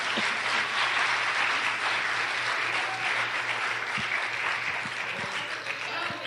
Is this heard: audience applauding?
yes